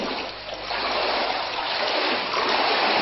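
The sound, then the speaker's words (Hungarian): Floodwater splashes and churns steadily for a few seconds in the inner courtyard of the hospital in Szikszó, a dense, continuous watery rush that stays fairly loud throughout, with no voices. “Ez pedig már a szikszói kórház belső udvara, ide kevés volt a gumicsizma. A műszakiak csak speciális vízálló nadrágban tudtak közlekedni, a műhelyekbe is betört a víz.”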